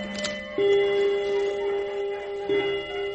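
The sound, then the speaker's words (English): An old bone-white clock with gold angels round its face strikes three o'clock with resonant chime tones, one long ringing note followed by another strike near the end, over faint ticking, fairly loud with no voices. “Oh, I love that old clock of mine. Old bone white clock with the gold angels round the face.”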